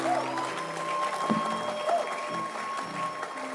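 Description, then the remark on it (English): An audience claps steadily and densely to welcome their pastor, a sustained wash of applause with a few held musical tones ringing faintly underneath and no voices standing out. “Keep clapping. Come on, let your hand clap be louder.”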